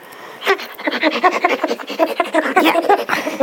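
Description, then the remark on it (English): A hairy male dog pants rapidly and steadily, a run of quick breathy huffs in an even rhythm that goes on for a few seconds with no talking over it. “Stop panting.”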